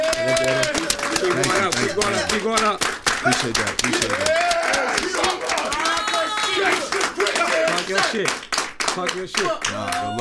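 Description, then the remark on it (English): An audience gives a steady round of applause for DJ Drama lasting the whole clip, a dense crackle of hand claps running under several people talking and cheering over it. “But, y'all, man, I want y'all to give a round of applause to DJ Drama.”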